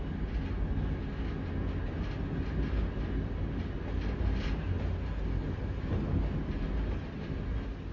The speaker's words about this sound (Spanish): De noche viaja sentada en el tren.